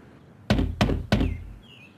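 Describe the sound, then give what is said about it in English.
A landlord knocks three firm, evenly spaced times on the wooden front door of a tenants' house, fairly loud, each with a low resonant thud, followed by quiet stillness as nobody answers. “Nobody answered the door.”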